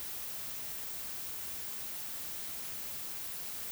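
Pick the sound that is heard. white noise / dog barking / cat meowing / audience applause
white noise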